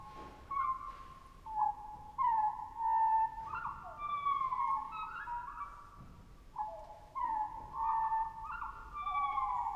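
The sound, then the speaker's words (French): Arctic bird calls field-recorded at the Arctic Circle by the composer Rautavaara for his work Cantus Arcticus: many overlapping whistled, sliding cries ringing out repeatedly over a faint low hiss, fairly loud and continuous throughout, with no voices. “Un nom parfaitement approprié, puisque Rautavaara est allé jusqu'au cercle arctique pour enregistrer des oiseaux pour son œuvre.”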